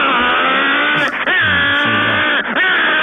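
A loud, buzzing delivery motorcycle engine revs steadily at a high pitch, dropping briefly twice as if shifting gears before climbing again. No speech is heard over it.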